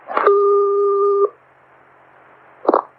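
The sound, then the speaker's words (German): A click, then a steady telephone line tone before a phone call holds for about a second before cutting off, followed by a quiet hiss and another sharp handset-like click. No one speaks. “Dass die Begegnung wohl tatsächlich ganz schön war und es sogar kleine Präsente gab, belegt das Telefonat, das die beiden danach geführt haben.”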